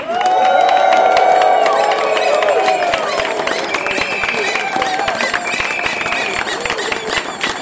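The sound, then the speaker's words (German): A loud crowd cheers and whoops over dense, steady clapping, making noise for the Verkehrswende (transport transition), with high shouts rising above the roar before the noise eases slightly but stays full throughout. “Macht mal ein bisschen Lärm für die Verkehrswende.”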